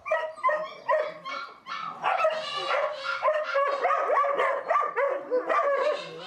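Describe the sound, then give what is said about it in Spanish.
Several dogs bark and yip continuously at a house adapted as an animal shelter, overlapping in a dense chorus of high-pitched barks with some whining mixed in, no speech. “La casa tiene 3 habitaciones, solo una de ellas fue adecuada para que la familia descanse y coma, mientras que en el resto de la casa fueron adecuadas varias camas para perros.”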